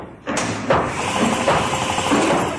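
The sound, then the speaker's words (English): Construction work starts abruptly as a loud, steady mechanical din, with a few dull hammer-like knocks punching through at irregular intervals. No one speaks. “I can't hear anything because of these guys working.”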